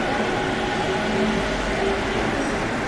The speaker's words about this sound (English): There's a train arriving from the storage siding onto the downtown bound platform, or what in Sydney I'd call the up platform.